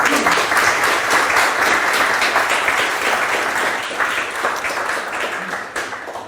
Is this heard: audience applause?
yes